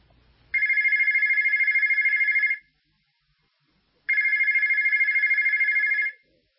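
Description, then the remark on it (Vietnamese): A telephone rings twice, each ring a rapid warbling electronic trill lasting about two seconds, separated by a pause of silence. Loud, with no talking. “Philippe Cadet tiếp tục thương lượng với đại lý ở Brazil và vẫn qua điện thoại”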